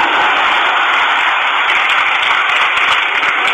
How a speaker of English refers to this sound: Great applause by the traitors there attending that.